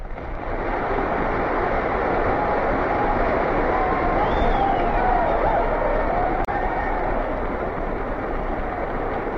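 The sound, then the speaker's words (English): A loud, sustained roar of applause, dense and unbroken, with clapping blended into a steady wash of crowd noise that holds at the same level, following the declaration that a state of war has existed between the United States and the Japanese Empire since Japan's attack on December 7th, 1941. “And the applause roared on and on.”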